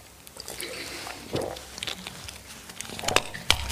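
Someone takes a quiet sip of water, with soft wet mouth sounds, a few small clicks and a swallow, and no talking.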